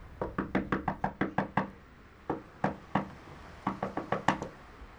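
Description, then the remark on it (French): Repeated knocking on a neighbour's door next to the home of Élie Zemmour in the Val-d'Oise, France: a quick run of about ten raps, a pause, two more knocks, then another burst of several raps. Moderately loud, with no voices; the neighbour does not answer. “Le voisin ne répond pas. Nous allons passer à la porte d'à côté.”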